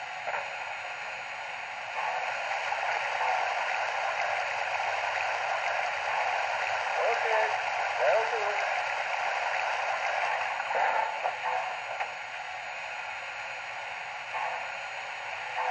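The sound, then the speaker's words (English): Water gushes steadily from a spout into a steam locomotive's tank, a continuous loud rushing hiss that holds constant for the whole stretch with no voices present. “Hey, it looks like we need to get pulling water before heading back down. All right, let's get that tank filled and get going.”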